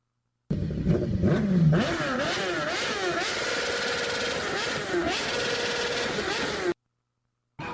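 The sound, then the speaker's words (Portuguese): A motorcycle exhaust revs loudly for about six seconds, the engine note rising and falling in repeated throttle blips before cutting off abruptly. “volta aí de novo essa descarga aí, essa descarga.”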